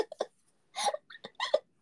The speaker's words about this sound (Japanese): なんだ今の？ゲップだよね。